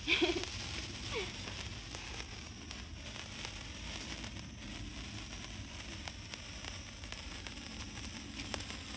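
A small, fairly long sparkler fizzes and crackles steadily for the whole stretch, a continuous hissing spray of tiny pops at an even level.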